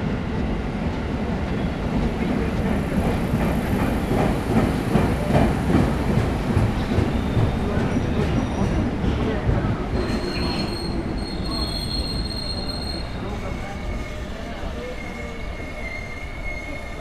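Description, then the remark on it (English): A train passes through a station, loud and continuous, its wheels grinding on the rails with rising metallic squeals and high-pitched screeching as it rolls through. “are you at a train station?”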